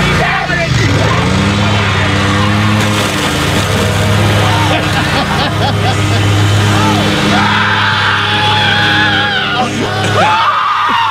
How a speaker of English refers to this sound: His dad revs the engine. And apparently he knows his dad because he immediately runs away from the lawnmower.